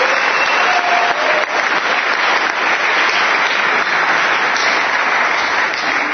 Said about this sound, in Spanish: Así que nada, un aplauso por favor.